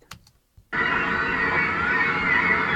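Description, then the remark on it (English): A recorded grackle's call, slowed and pitched down by Horner to stand in for the screams of a crowd running from a storm, becomes a loud, sustained, raspy wail that resembles screaming, preceded by a few faint clicks and a brief silence. “So I took their sound they had recorded of the grackle, and I pitched it down.”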